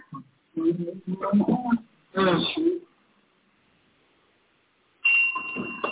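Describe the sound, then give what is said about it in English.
A bell rings out with a clear, sustained metallic tone near the end, following a few short bursts of voice-like sound earlier and a brief pause. “I think we just need to start by ringing the bell on that revelation.”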